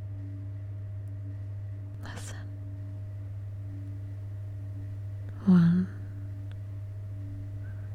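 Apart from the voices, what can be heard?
elevator humming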